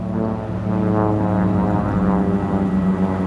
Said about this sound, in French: Le lendemain, nouveau passage de l'avion des secours australiens.